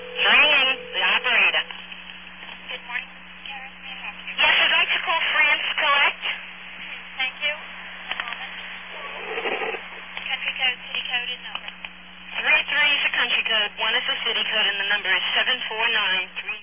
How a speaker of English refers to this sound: Now, you hear that? Yeah, those are MF tones. And That was the old AT&T system.